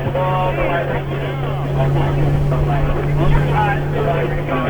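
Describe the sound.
A motorboat engine, just started up, drones steadily as the boat heads back on the water, a constant low hum that holds throughout, with indistinct voices talking over it.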